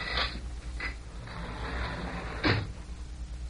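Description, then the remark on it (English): A door opens as people come inside, with a few sharp mechanical clunks and rattles, a louder knock near the end, over a low steady background hum. No one speaks. “But someone's outside that door.”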